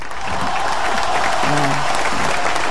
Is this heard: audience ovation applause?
yes